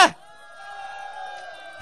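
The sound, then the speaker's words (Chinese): A group of friends lets out a sustained, high-pitched scream of cheering, held steadily for over a second, framed by brief noisy bursts at the start and end. “你请个朋友再次俾啲尖叫声得唔得？”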